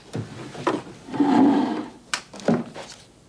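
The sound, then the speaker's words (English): A wooden right-hand drawer holding bottle openers and a flashlight slides open with a long, scraping rub, framed by a few sharp knocks and clatters as things inside are shifted around, with no voices. “It's in the right-hand drawer next to the bottle openers.”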